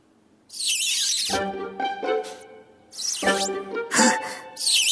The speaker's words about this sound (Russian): Не обращай на меня внимания. Я просто немножко потру пенопласт о стекло.